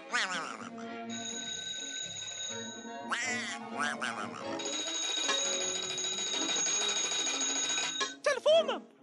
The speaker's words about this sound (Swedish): Telefonen.